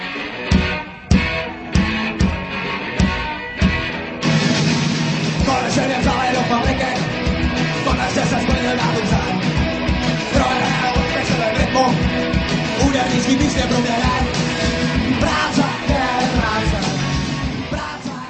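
A loud Czech punk rock song: a few sharp, staccato band hits open it, then distorted guitars and pounding drums crash in at full, dense volume beneath a shouted chorus.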